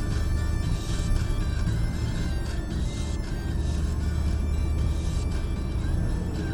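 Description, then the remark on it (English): Steady low rumble of a car driving along a road in light traffic at about 4:27 p.m., with constant engine and tire noise and faint passing traffic whooshes, no one speaking. “Traffic out here is rather light.”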